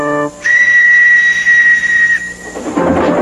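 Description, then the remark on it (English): The whistle of Thomas, a steam train engine, gives one long, steady, high-pitched blast lasting nearly two seconds over a hissing background, then a rush of steam noise follows. “Thomas is a train engine.”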